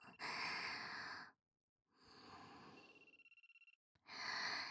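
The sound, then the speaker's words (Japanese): A telephone rings with a rapid, trilling electronic pulse for under a second, set among loud breathy sighs and exhalations that fill the rest of the moment. No one speaks. “ほら、電話まだ鳴ってるよ。”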